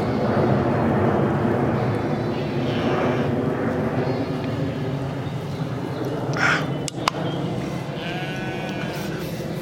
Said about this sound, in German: Mann, ist er schon wieder laut über mir. Flugzeug.